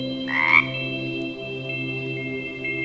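A single loud, raspy frog croak bursts out near the start, over a steady droning chorus of frogs that continues throughout with a few faint chirps. No one speaks.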